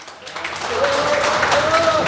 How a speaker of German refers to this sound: Ein Applaus an unseren heutigen Koch, oder?